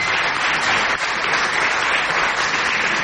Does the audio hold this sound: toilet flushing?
no